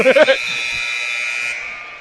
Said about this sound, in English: And there's your final buzzer, 69-48. It's a 21-point win for the Michigan Center Cardinals over the visiting Concord Yellow Jackets.